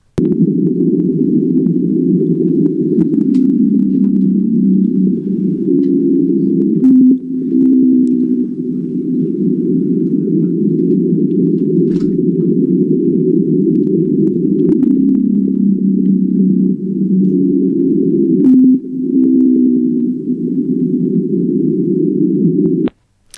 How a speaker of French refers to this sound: Ça, c'était une baleine bleue du sud du Pacifique, et l'enregistrement a été accéléré 10 fois pour qu'on entende quelque chose, parce que les baleines chantent entre 12 et 25 Hz, alors que les humains n'entendent qu'à partir de 20 Hz.